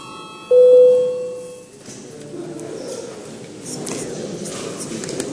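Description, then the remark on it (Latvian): A parliament session bell sounds once, a loud, steady ringing tone lasting just over a second, rung for the registration of deputies' attendance, then fades into a low murmur with faint background voices. “Lūdzu zvanu.”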